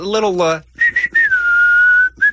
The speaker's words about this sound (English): No, I just want to get an idea of what your whistling sounds like.